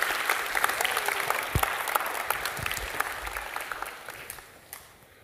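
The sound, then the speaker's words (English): A church audience applauds women called up to present their recent trip to Guadalajara, with many hands clapping in a dense, steady patter that holds for about five seconds before gradually thinning out toward the end. “Yeah, you can applause.”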